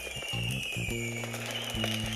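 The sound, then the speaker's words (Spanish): Fireworks going off outside: a handful of sharp, irregular pops and bangs over a steady low droning hum and a faint high-pitched whine, with no voices. “ahora creo que vamos a abrir de vuelta la puerta porque siguen los fuegos artificiales, me parece, ¿no?”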